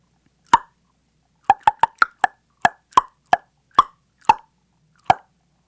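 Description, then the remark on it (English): A person makes about eleven sharp, hollow tongue clicks imitating a killer whale, speaking to whales through the glass of an observation room: one alone, then a quick burst, then a steadier sequence, with no talking. “You see, whales speak by clicking and whistling, and I can click too with my tongue.”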